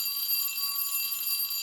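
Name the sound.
school bell ringing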